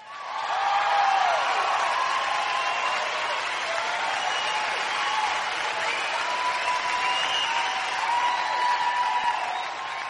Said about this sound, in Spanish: Y aquí es donde tienes que aplaudir.